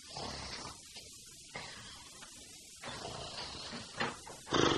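A person makes loud, exaggerated snoring noises, several rough snorting breaths in a steady rhythm, with no talking.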